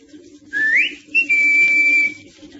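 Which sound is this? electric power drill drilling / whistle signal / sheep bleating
whistle signal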